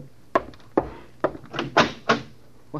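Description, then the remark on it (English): A series of about six or seven solid knocks on a door, fairly loud, spaced unevenly with short pauses between them and no voices. “There's someone at my door.”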